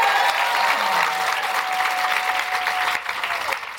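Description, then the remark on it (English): An audience applauds steadily, a dense wash of many hands clapping at a loud, even level that thins slightly toward the end, welcoming author Nina Stibbe as a guest. “Round of applause, please, for Nina.”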